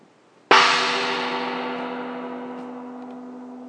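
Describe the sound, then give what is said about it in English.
A gong is struck once, sharply, then rings on with a rich, shimmering wash of overtones and a steady low hum that slowly fades over several seconds. No one speaks. “But if all we're doing is telling other people how to love, we're just like this gong. We make an impressive sound, but it fades quickly, and there's nothing left in the air but silence.”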